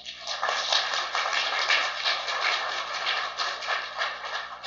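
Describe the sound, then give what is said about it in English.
A crowd applauds with dense, steady clapping that holds an even loudness for almost five seconds, a crackling wash of many hands with no voices over it. “But you see, he needs a round of applause.”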